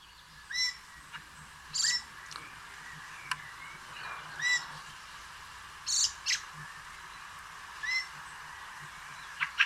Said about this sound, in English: Fieldfare, Turdus polaris. The fieldfare is a member of the thrush family, and it is also a passerine bird.